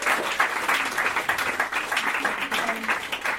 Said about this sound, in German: Gebt doch Marlies einen riesengroßen Applaus.